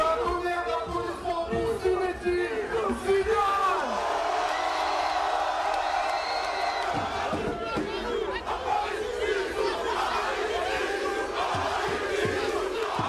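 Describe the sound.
A large crowd of fans of all ages cheers and chants loudly and continuously at a suburban football pitch where Zinedine Zidane appeared, on the eve of the final played by Real Madrid, shouting 'Zizou à Paris', many voices in a dense, energetic roar with rising calls throughout.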